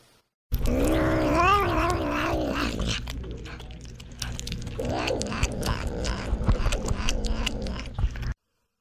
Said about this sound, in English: That sound you heard was one of the Savannah cats eating a chicken leg and letting me know that it was not the sharing